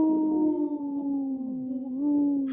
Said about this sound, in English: I'm just looking at the little video. The dog, he looks like, or the wolf, he looks like he takes another little, like, short howl. So I always feel compelled to, you know, lip sync for him.